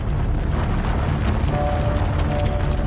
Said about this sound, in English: An explosion tears a hole in a mine pit, and another, and near the dirt bit. A line of explosions rips through a ridge in the Appalachian Mountains.